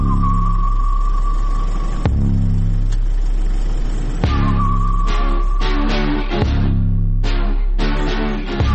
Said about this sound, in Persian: نیکو رو انداختم پشت ماشین، استارت رو زدم و صدای موزیک رو تا آخر بردم بالا.